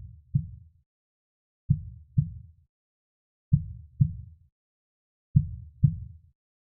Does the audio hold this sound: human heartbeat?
yes